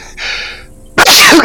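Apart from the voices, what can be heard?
sneeze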